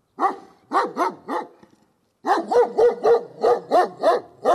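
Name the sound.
beagle dog barking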